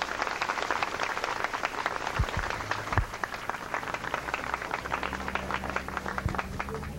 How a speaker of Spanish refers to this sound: Recibámoslos a ellos con un fuerte y caluroso aplauso.